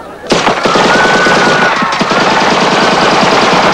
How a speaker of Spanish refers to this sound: Joan, Jack y la joya se parapetan tras bidones y neumáticos. Fuera de la ciudad, los nómadas oyen los disparos y montan.